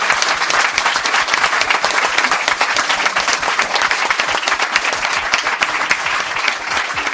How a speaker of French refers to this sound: Et bravo à vous. Applaudissez-vous.